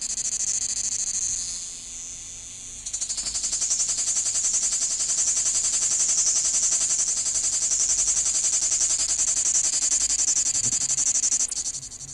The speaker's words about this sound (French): Les cigales qui rient dans la chaleur.